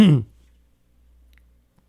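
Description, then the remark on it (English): A single short, gruff throat-clearing cough, fairly loud, lasting a split second and followed by near silence with only faint low background hum. “I had to cough here.”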